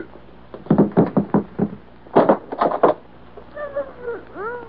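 A door is knocked on in two quick bursts of raps, then swings open with a drawn-out, wavering creak of its hinges. No one speaks.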